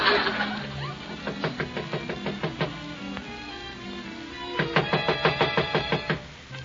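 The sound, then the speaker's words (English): Two bursts of rapid knocking on a door, each a quick run of about a dozen sharp raps separated by a short pause, clear with no talking. “Why don't we go? No one's coming to the door.”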